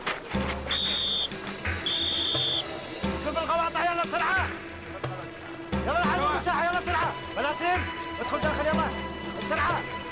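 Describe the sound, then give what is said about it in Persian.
Two sharp, steady whistle blasts in quick succession, signaling the end of yard time, ring out over a noisy background, followed by people talking loudly. “سوت بعد موقع دیگه چیه؟ سوت پایان هواخوریه.”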